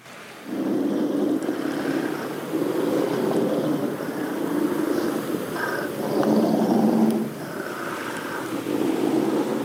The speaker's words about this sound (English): I have a recording of a wolverine growling that I just want to share, just to give people an idea of like what wolverines are actually like in real life.